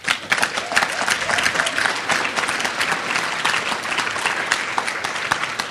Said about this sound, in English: So now you can applaud.